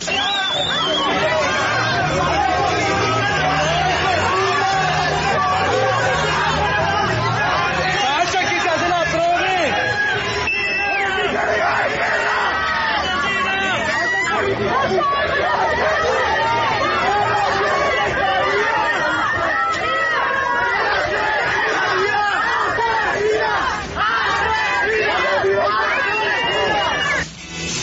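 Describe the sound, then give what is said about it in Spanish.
A small crowd of no more than 20 people in Bogotá shouts "asesina" at Mayor Claudia López at the commemoration of one year since Dylan Cruz's death, many overlapping voices forming a loud, steady clamor that continues without pause for the whole stretch. “No había más de 20 personas gritándole asesina a la doctora Claudia López, alcaldesa de Bogotá, cuando fue a ser parte de esta conmemoración.”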